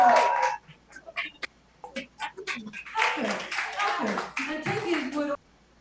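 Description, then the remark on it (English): An audience breaks into applause, scattered claps at first that thicken into a fuller round mixed with voices and cheering, then cut off abruptly after about five seconds. “Akimba, let's hear for Akimba.”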